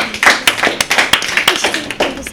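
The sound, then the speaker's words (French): A small audience claps together in brief, lively applause for a correct answer in a sound-guessing game, many quick overlapping claps forming a steady patter, with no voices. “On peut l'applaudir.”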